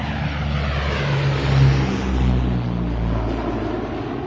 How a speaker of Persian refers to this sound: ظهر همون روز با حمله هواپیماهای عراق جنگ شروع شد.